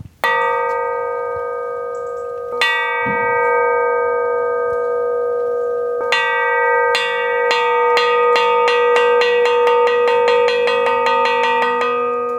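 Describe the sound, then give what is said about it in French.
A struck metal signal at a Zen monastery, calling people to meals, rings out with bright, sustained bell-like tones: a few spaced blows at first, then a quickening series of strikes that speeds into a rapid, steady clangor. “On a ici le métal qui, lui, appelle pour les repas.”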